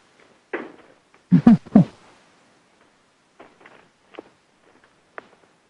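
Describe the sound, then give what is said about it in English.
Several irregular footsteps: a few heavy, low thuds early on, then lighter, fainter steps spaced apart, with no talking. “Sounds like we lost our MC, but I hear footsteps.”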